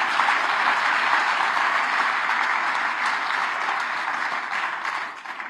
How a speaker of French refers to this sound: Alors, est-ce qu'on est en direct sur Radio Espérance? Eh ben oui, eh ben on peut applaudir les auditeurs Radio Espérance, mes amis.